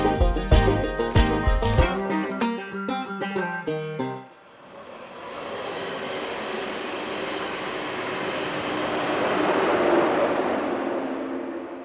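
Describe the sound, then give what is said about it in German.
A short burst of tonal music gives way to a steady, broad rumble of a train at the railway station platform in Fürstenberg an der Havel, swelling louder toward the end as it rolls past, with no talking. “Wir stehen hier auf dem Bahnsteig des Bahnhofs in Fürstenberg an der Havel”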